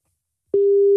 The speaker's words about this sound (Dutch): de telefoon gaat nu over.